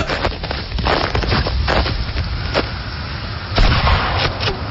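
Several sharp rifle shots crack out at irregular intervals during shooting practice, each a sudden loud burst over a steady low rumble, with no voices present.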